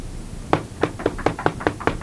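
Someone raps on a door in a quick, slightly uneven burst of about nine firm knocks, clear, with no voices in between.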